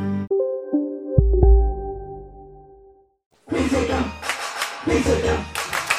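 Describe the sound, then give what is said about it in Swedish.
A sustained tonal chime rings out and fades to a short silence, then a loud burst of applause erupts, many hands clapping densely for the last few seconds, with a brief dip midway. “Det är jävla klappa där.”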